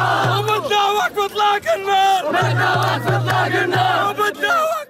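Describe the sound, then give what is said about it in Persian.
A crowd celebrates a ceasefire between Israel and Hamas outdoors in the Gaza Strip with loud, continuous cheering and chanting, many voices rising and falling together over a steady low hum, with occasional sharper shouts breaking through. “طی روزهای گذشته پس از اعلام دستیابی اسرائیل به حماس به توافق آتش بس با منجگری آمریکا، مصر و قطر، مناطق مختلف نوار غزه شاهد جشن بود.”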